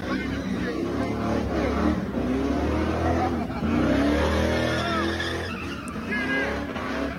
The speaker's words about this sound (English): and I'll play just a little sound from it, that happened in Chicago or in Seattle over the weekend, which again, they've been doing these burnouts, you know, these car racers and stuff in front of the Space Needle. Here's a little video.